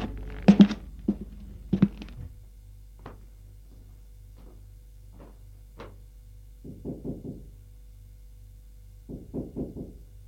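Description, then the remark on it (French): Knocking on a wooden bedroom door: a few sharp raps at first, then two quick bursts of four or five knocks each, fairly loud, with quiet pauses between and no voices. “Et le lendemain, elle va frapper à la porte de la chambre de son frère.”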